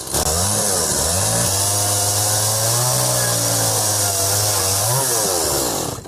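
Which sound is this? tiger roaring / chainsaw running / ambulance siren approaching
chainsaw running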